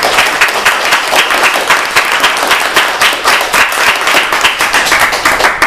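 Sustained audience applause, many hands clapping in a dense, steady patter at a loud, even level for several seconds, with no voices standing out.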